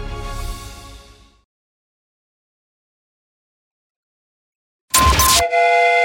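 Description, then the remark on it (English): A loud train whistle sound effect, introducing the Jamie's Train of Thought segment on Alice 105.9 radio, bursts in after a stretch of silence and holds a steady, sustained blast to the end, preceded earlier by a fading ringing tone. “You've just bought a ticket on Jamie's Train of Thought.”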